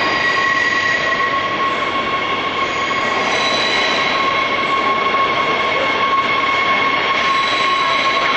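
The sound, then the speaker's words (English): A train approaching a stop at the start of its line rumbles steadily, its wheels letting out a sustained, piercing high-pitched squeal that rings over the dense, loud rolling noise without any voices. “I think the trains make kind of a haunting sound, and you'll see what I mean as it comes closer.”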